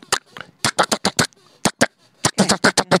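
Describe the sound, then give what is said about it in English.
A voice imitates M16 rifle fire with a rapid string of sharp, staccato mouth bursts, loud, coming in quick irregular clusters with brief pauses between volleys. “Can you do an M16? Well, M16 is a little bit more staccato, so it's...”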